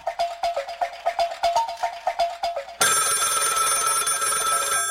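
An old-style telephone bell trills in rapid, evenly spaced bursts, then breaks into a continuous bright, metallic ring. Loud, with no voices.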